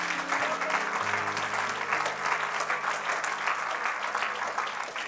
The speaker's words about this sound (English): If you're ready to receive the word of the Lord, come on, clap your hands unto the Lord one more time.